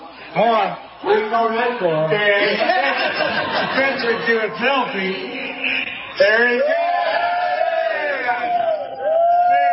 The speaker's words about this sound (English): Joe Biden goes to an event in Pennsylvania, gets told to put on a Trump hat, puts it on, and the crowd roars.